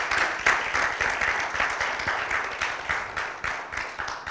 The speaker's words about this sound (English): Give him once again a glory clap to Lord Jesus Christ.